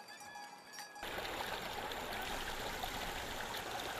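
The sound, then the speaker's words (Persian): Water from a spring in Kurdistan Province, Iran, flows steadily, a dense, continuous rushing and splashing that starts abruptly after a brief quiet moment with a faint tonal hum, then holds constant. “در روبروی حوار گزیبان چشمه ای وجود داره.”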